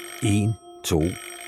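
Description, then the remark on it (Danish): A doorbell rings twice in quick succession, each ring a buzzy, harmonic tone lasting about a third of a second, the second starting with a sharp click. “Ringeklokken bimler.”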